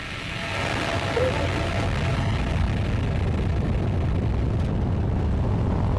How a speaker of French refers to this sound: 4, 3, 2, unité, top, allumage moteur Vulcain.